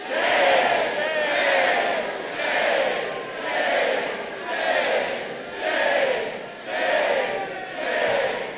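A crowd of people in a room shouts "shame" together in unison over and over at the top of their lungs, about eight loud, rhythmic chants spaced roughly a second apart, many voices blending into a raw, sustained roar.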